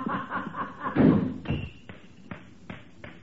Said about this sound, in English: Did you hear him slam that door? Trying to make me jump and knock these ashes off.